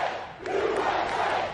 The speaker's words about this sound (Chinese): 当晚主持人之一杰米·福克斯带领观众高喊美国美国美国。